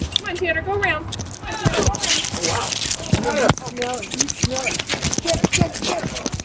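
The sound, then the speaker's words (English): A dog chasing a rat repeatedly bangs its head and paws into a stack of loose wooden boards next to a sidewalk, making rapid, irregular knocks and thumps while a person speaks over the commotion. “This is the sound of him banging his head and paws into those boards.”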